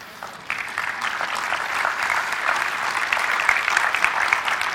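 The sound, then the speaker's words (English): Steady applause from an audience, a dense wash of many hands clapping that starts up sharply and holds at an even, fairly loud level throughout with no voices. “So, I wasn't looking for applause, but just an amen.”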